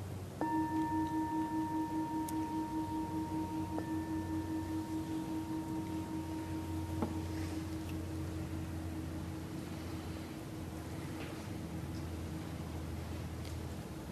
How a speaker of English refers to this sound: And then to end this sitting, you can open your eyes and I'll ring the ending bell.